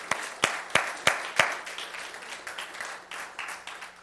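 Applause from a church audience, a round of applause thanking a pastor for organizing VBS, opening with several sharp, evenly spaced claps before settling into a softer, steady patter of many hands clapping.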